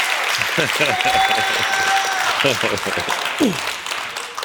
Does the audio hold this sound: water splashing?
no